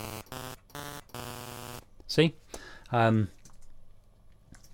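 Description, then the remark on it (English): A sampled noise, pitch-shifted in software and played as short notes from a musical keyboard: four quick, buzzy tonal bursts at shifting pitches in a row, then a brief spoken word and one more pitched burst. “I can change the pitch using a musical keyboard or MIDI notes using the software.”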